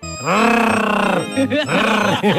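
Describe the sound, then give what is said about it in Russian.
A person surrounded by friends growls loudly at a lion in a deep, strained voice, imitating an animal's roar with a long sustained growl followed by a few shorter rumbling bursts. “Он стоял, окруженный приятелями, и рычал на льва.”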